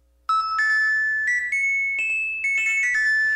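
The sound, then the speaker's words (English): The weather chime of Winnipeg radio station CJNU, signalling the weather report: a short electronic chime plays a bright melody of sustained tones, stepping up and down in pitch over about three seconds, with no voices over it. “And the weather chime, Rick, means that it's time for the weather.”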